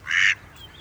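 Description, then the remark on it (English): A single bright, nasal duck quack rings out clearly from ponds full of mallards and American wigeons, about 100 ducks, at Vanier Park in Vancouver, followed by a quieter background of faint outdoor ambience with bird calls. “Got about 100 ducks here.”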